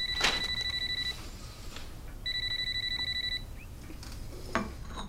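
A telephone rings twice, each ring a trilling electronic tone lasting about a second, separated by a short pause, heard clearly over a soft background hiss.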